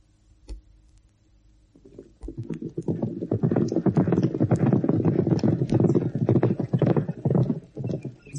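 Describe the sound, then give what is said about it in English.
Hooves of police horses being driven into the yards clip-clop steadily on hard ground, a dense rhythmic patter of many hoofbeats that starts after a quiet moment and continues fairly loud. “Into the yards, you plurry, pampered police horses.”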